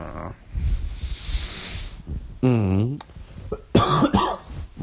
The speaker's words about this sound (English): Yeah, my cough is still here. I'm getting better, though.